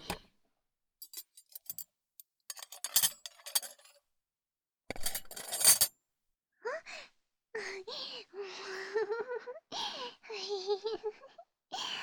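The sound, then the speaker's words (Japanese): Dishes being cleared after a full-course meal, with scattered sharp clinks and taps followed by a brief dense clatter of tableware; afterward a young female voice speaks in short phrases. “食器、片付けちゃうね。”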